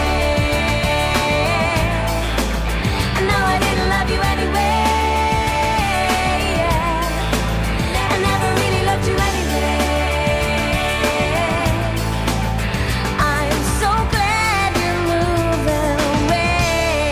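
A pop rock song from an album plays loud and steady throughout, with a full band of driving drums, bass and layered guitars filling the mix from start to finish.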